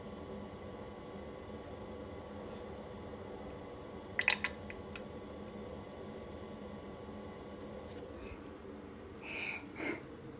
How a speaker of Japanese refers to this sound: おならも出ちゃいました。なんかもう少し綺麗な音にしたいけど、こういう音出してしまってごめんなさい。